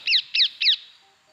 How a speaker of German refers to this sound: Ja, mit diesen doch ganz wohlklingenden Papageienrufen sagen wir Danke an euch, dass ihr wieder eingeschaltet habt.